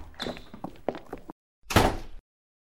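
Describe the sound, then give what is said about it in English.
A door is pushed shut with a heavy thunk after a moment of rattling and shuffling movement, then brief silence follows. “Shut the door.”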